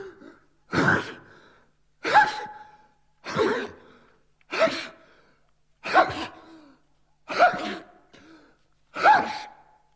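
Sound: sneezing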